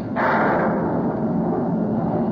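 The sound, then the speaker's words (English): A loud crack of thunder breaks suddenly and rolls on as a heavy, deep, steady rumble for a couple of seconds, with no voices. “Followed by loud bursts of thunder.”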